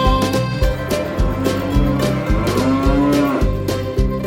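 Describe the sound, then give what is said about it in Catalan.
A cow moos over bouncy, steady music in a Spanish-language version of the children's song "Old MacDonald Had a Farm" (El viejo McDonald tenía una granja); the low, drawn-out bellows blend with the rhythmic accompaniment at a fairly loud level. “Y en esa granja tenía una vaca, ia, ia, yo. Con un mu, mu aquí, mu, mu allá, mu aquí, mu allá, todas mu, mu.”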